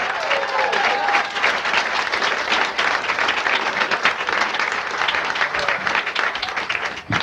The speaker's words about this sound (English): Our next entertainer is a very funny guy. He's a regular here at Laughs Unlimited. A big round of applause,